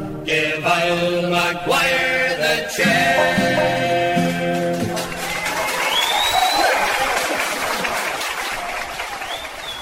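A sung tune with instruments winds down over its final notes, then a crowd breaks into sustained applause and cheering, with a sharp whistle cutting through the clapping.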